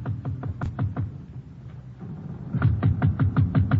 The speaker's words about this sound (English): I hurry aboard the ship, and after showing the person my credentials, we go below to Buko's cabin. I wait a short distance away while he knocks on the door.